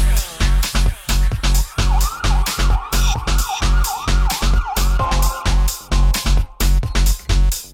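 A wailing police-style siren rises and falls over a loud, pounding dance beat with heavy bass hits, the siren woven into the music rather than passing by in traffic, in a classic UK funky track played on Radio 1's Residency.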